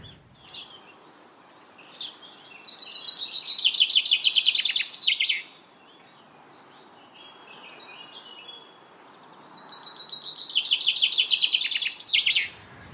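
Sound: chaffinch song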